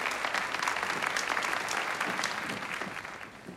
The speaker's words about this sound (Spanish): Un cálido aplauso para este ejemplo de generosidad y humanidad.